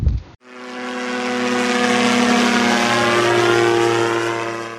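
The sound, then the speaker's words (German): Loud, steady roar of an airplane's engines as it passes on runway 03 at an airport, with a strong droning hum that holds for several seconds after a brief thump at the start. No one speaks. “Und es dröhnt in meinen Ohren.”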